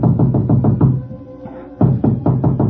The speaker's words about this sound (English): 20 minutes later, there was a knock on my door.